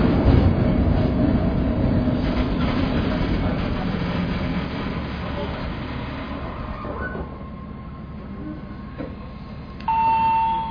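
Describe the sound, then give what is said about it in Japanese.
A one-man local train rolls along, heard from inside the carriage: a steady, loud rumble of wheels and motor that slowly eases off, with a brief electronic chime tone near the end. “ご乗車ありがとうございます。この列車は君行きワンマンカーです。”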